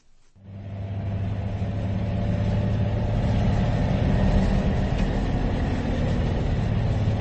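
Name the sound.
bus ride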